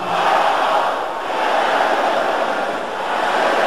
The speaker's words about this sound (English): Can I hear the sister shouting this? Ba arabirin ki won kide le. Wipe out. Pare. Brothers shouting loud and the sisters.